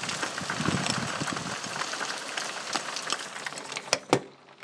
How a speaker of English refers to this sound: So, there we are, that's the rain. It's just started raining again.